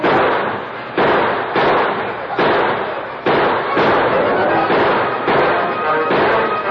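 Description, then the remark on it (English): A gunfire exchange of rifle and pistol shots between a sheriff with his deputies and outlaws firing from horseback: about eight loud reports at irregular intervals, each crack trailing into a dense, echoing roar that barely fades before the next. “And the sheriff and his deputies returned the fire.”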